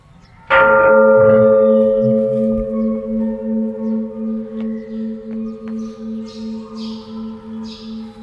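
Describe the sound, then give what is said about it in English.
A single loud strike of a Catholic parish church bell rings out on a hot, sunny day, its deep tone humming and slowly pulsing as it fades over several seconds, with faint chirps of birds in the background. “This is the bell of the church when I was a kid.”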